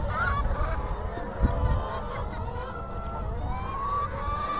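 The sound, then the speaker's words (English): A dense chorus of hens with untrimmed beaks in a modern, relatively new hen house purpose-built for organic farming, many birds clucking and squawking at once in a steady, continuous din with no pauses. “You know, I know it looks like a lot of hens here, but when you compare it to intensive hen farming”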